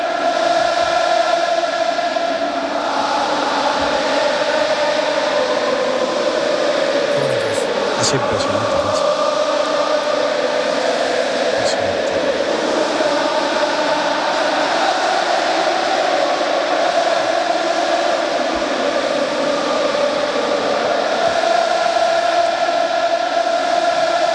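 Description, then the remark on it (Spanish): A huge crowd of close to 70,000 spectators sings the historic Real Betis anthem together in the packed La Cartuja stadium before a football match, a loud, continuous wall of voices with a broad, echoing roar that never lets up. “Lo mismo que la Cartuja, suena el himno histórico del Real Betis.”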